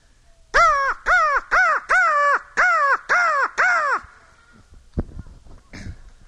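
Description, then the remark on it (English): A person imitates a crow, giving seven loud, harsh caws in a quick, even series, followed by a couple of seconds of near silence. “And I learned to do this imitation in high school, I guess.”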